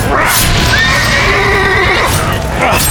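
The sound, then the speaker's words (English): A loud whinny from a dying horse, a wavering, drawn-out neigh that rises and falls over a few seconds, set against a dense, noisy background. “He turned to his dying horse.”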